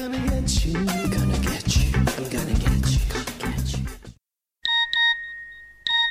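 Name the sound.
mobile phone ringtone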